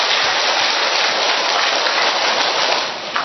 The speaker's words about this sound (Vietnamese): Cho nên Chúa nhật thứ tư mùa chay, Chúa nhật màu hồng, Chúa nhật của niềm vui, chúng ta cùng tạ ơn Chúa và chào mừng nhau một tràng pháo tay thật lớn, thưa anh chị em, thưa các bạn.